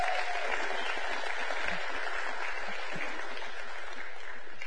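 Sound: audience clapping hands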